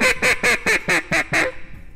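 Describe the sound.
A duck call blown in a quick, steady run of about seven loud, nasal quacks, with no talking, imitating a duck before trailing off into quiet.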